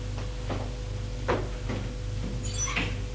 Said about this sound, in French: Elle ferme la porte.